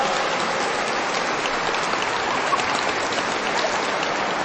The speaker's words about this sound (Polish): Ksiądz biskup Antoni Długosz, brawa dla księdza biskupa, gorące brawa.